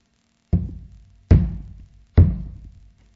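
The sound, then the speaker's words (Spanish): Three heavy hammer blows drive nails through Jesus Christ's hands into the cross at the crucifixion. They fall at a steady, unhurried pace, each a sharp, loud, low thud that rings briefly and fades before the next. No voices accompany them. “¿Oís el ruido del martillo?”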